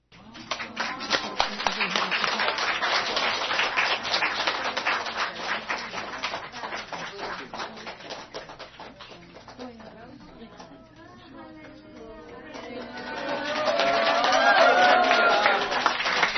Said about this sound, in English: I'm not used to this applause. I'm not used to applause. 我不习惯大家为我鼓掌，这么热烈的欢迎。